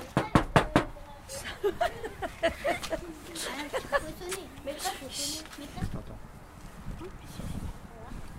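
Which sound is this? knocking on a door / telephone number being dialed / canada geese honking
knocking on a door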